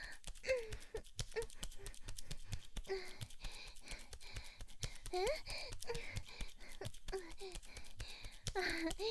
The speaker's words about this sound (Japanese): 息遣いが聞こえる？